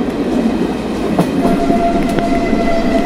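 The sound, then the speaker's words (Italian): A tram rumbles steadily along the rails, with a dense continuous roar, a faint high whine and occasional metallic clicks, loud throughout, with no voices. “Ormai l'unica soluzione è buttarsi. Buttarsi a mare con il tram.”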